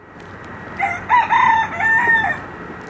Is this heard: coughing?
no